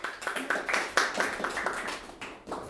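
An audience applauds with a steady patter of many overlapping hand claps, fairly soft and even throughout, with no voices over it.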